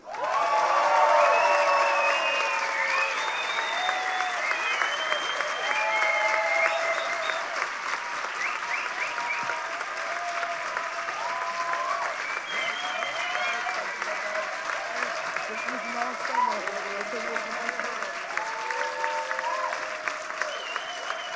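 Sustained audience applause for a presented action, 'Kindermästen gegen KitKat', in a competition round: a dense, steady wash of clapping hands lasting about twenty seconds, loud throughout with scattered cheers and voices mixed in.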